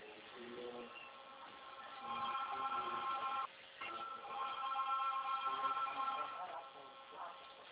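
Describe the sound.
A telephone rings with a melodic, tonal ringtone that plays in repeated bursts and swells louder partway through, with faint murmuring voices beneath it.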